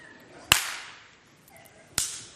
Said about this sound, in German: Und dann fragt er ganz höflich, weil er neugierig ist und sagt, warum klatschen Sie alle paar Sekunden in die Hände? Ist doch klar, ich halte die Elefanten von uns fern.